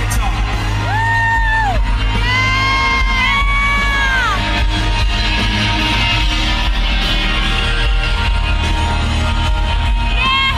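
A loud concert crowd at a a singer's concert roars and cheers continuously, with a few sustained, rising whoops and a man's drawn-out "yeah" shouted prominently over the noise near the start.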